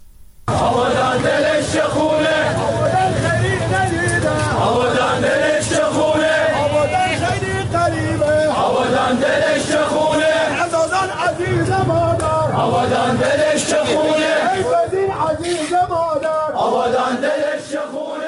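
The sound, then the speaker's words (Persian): A crowd of protesters and mourners in Abadan, Khuzestan, heard every night after the collapse of the Metropol tower, many voices merging into a loud, continuous collective chant or lament that swells and pulses steadily throughout, with no single speaker standing out. “این صدای مردم معترض و عزاداری است که هر شب شنیده می شود.”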